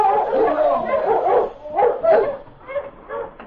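A team of Malamute sled dogs barks and yelps excitedly as they are urged on, leaving Lime City at 4 o'clock in the afternoon, the overlapping calls coming in quick, uneven bursts, with no talking over them.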